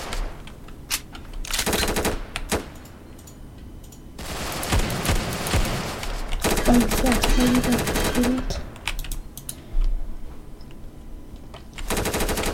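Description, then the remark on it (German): Loud bursts of rapid video game gunfire crackle in several stretches, some short and some lasting a few seconds, separated by quieter gaps with faint background noise. “Du schießt nicht auf mich, also alles okay.”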